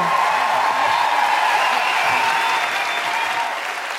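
A crowd applauds steadily, a dense wash of many hands clapping at once that holds strong before easing slightly toward the end.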